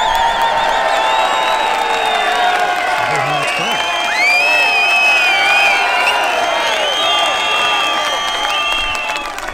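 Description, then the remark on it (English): A large crowd on the Robinson side cheers and shouts continuously at an outdoor event, a dense roar of many voices with high whoops and calls rising above it, loud and sustained throughout. “So this is of the Robinson side, just to show you the crowd.”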